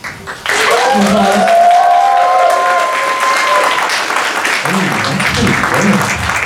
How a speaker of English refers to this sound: But before I call them out, let's practice some applause. So, can I hear from this side?